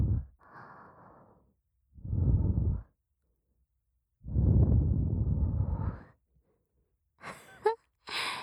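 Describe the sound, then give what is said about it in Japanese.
Soft, breathy exhales gently blown into a listener's ear during a class, in several gentle puffs, with two longer sighing breaths, separated by pauses, followed by a couple of faint airy whispers near the end; no speech. “吐息、優しく吹きかけただけで背筋がピンってなってる。”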